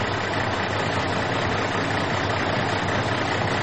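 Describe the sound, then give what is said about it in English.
A steady, deep rumble of idling truck engines at a truck stop fills the air, a continuous low drone with a broad mechanical hum layered over it and no speech. “It's a sort of spooky, dark place with a deeply penetrating rumble that you feel in your chest, as if 100 bull mastodons decided to have a snoring contest.”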